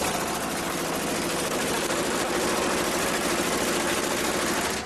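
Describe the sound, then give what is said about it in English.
A loud, steady mechanical rattle of a vibrating potato shaker table on a homemade harvester machine, running to shake dirt off harvested seed potatoes: a dense rapid clatter with a low motor hum underneath, continuous throughout with no voices. “The vibrating contraption shakes free all of the dirt, leaving only the seed potatoes, which come spring will be planted in the Milk Ranch experimental field to produce the first crop of a new breed of spuds.”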